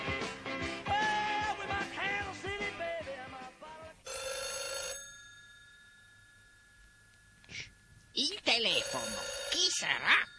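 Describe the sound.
A telephone bell rings in one loud, brassy burst that hangs and fades into near silence, with a voice talking or singing before it and talk resuming afterward.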